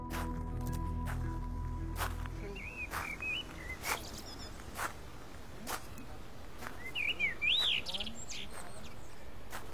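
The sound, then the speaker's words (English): A bird chirps in short, scattered bursts of quick tweets over a soft background with occasional sharp taps and a low hum fading out early on. “And tell me, bird, how do you worship God?”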